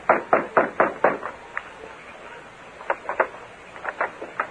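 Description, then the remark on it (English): A rapid series of heavy fist blows on the wooden back door of a sheriff's office, about six in a quick burst, a brief pause, then several more scattered pounds, loud with no voices. “Then he pounded on the door.”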